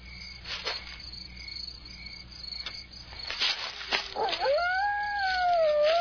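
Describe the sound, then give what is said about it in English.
A dog lets out a long, rising howl at night that swells and holds steady near the end, over a constant chorus of chirping crickets. “Probably just a dog.”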